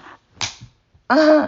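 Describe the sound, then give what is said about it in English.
A single sharp slap of a hand on a person's buttocks, followed moments later by a drawn-out voiced vocal sound. “And then you slap my ass.”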